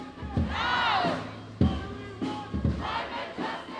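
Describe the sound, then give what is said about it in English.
A climate protest crowd chants the slogan "climate justice" in unison, loud rhythmic shouted phrases repeating in bursts, with rising and falling voices blending into a roaring mass of sound. “Anyone that attended a climate protest at the weekend will have heard a phrase being shouted, climate justice.”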